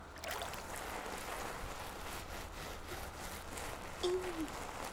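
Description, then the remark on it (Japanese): Hands being washed in water before lathering soap on a scrub cloth: a steady swish and slosh of water runs throughout, with a brief murmured voice near the end. “手を洗いまして、そうしたら赤すりに石鹸を泡立てます。”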